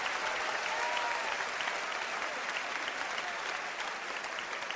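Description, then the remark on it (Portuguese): An audience applauds the Lord with steady, dense clapping that fills the whole clip at an even level, with no speech over it. “Aplauda o Senhor, porque você está debaixo da misericórdia.”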